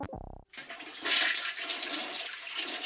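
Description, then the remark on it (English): A short buzzy tone cuts off, then a toilet flushes with a loud, steady rush of gurgling, hissing water that keeps churning without any voices. “Yeah, that's where things like this go. Right down the drain.”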